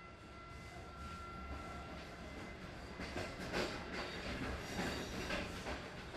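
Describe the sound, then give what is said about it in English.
A train rolls along the rails with a steady rumble and repeated clickety-clack of wheels over joints, with a faint hiss and no voices; an overnight train travelling north to the city of Lahore in Punjab province. “After leaving Khatri, we catch an overnight train north to the Punjab province and the city of Lahore.”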